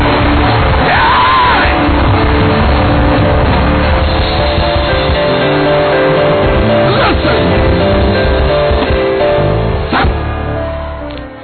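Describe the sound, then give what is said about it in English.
A large crowd screams and yells together, loud and sustained for the whole stretch, with scattered rising whoops and shouts breaking out above the dense roar. “Come on, scream it like a boy.”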